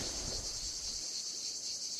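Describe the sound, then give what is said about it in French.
An ash cicada (Cicada orni) sings in a steady, high-pitched buzzing drone, loud, with a soft low rumble in the background during the first second and no voices. “Erreur, on entend la cigale de l'Orne, Cicada orni, alors qu'on voit la cigale plébéienne, Lyriste plébéius.”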